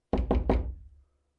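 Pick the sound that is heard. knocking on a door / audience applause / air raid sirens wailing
knocking on a door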